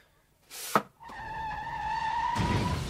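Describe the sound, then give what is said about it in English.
A short whoosh of passing traffic on Southampton Row, where a man stands in the middle of the road directing it, then a long, loud tyre squeal with a steady high-pitched whine, ending in a rougher skidding rush as cars brake hard. “He's directing the traffic.”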